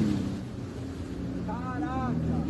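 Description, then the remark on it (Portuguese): A jet ski engine drones steadily on floodwater in Eldorado do Sul as volunteers carry donations and steer around submerged cars, fairly loud, with wind buffeting the microphone and a brief voice rising over the motor toward the end. “Em outra região de Eldorado do Sul, voluntários levam doações em motos aquáticas.”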